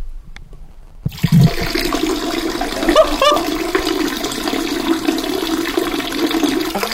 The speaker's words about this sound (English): Oh, nice. Still going. Oh, this boy can piss. It's just a constant flow. Oh, it drops now. Oh, little spray.